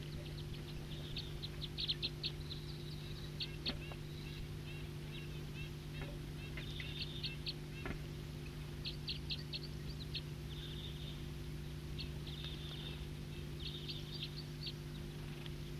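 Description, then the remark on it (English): Wild birds chirp and tweet in quick, scattered bursts throughout, high-pitched and fairly soft, over a constant low droning hum. “So recording some wild birds here.”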